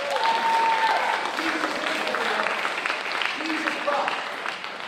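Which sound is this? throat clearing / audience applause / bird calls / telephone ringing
audience applause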